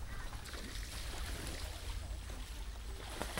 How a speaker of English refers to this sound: ducks splashing about.